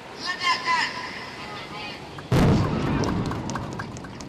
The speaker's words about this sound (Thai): ครับนั่นก็เป็นเสียงการระเบิดเรือประมงนะครับโดยทางการอินโดนีเซียนั่นเอง